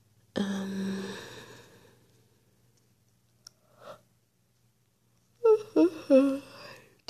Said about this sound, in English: me yawning.